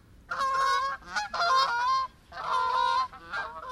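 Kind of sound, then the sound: bird, geese honking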